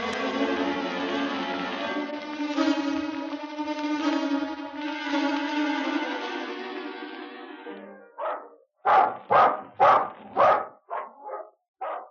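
A sustained harmonic tone, like music, fills the first eight seconds, then a guard dog lets out a quick run of about eight loud, sharp barks that tail off slightly toward the end.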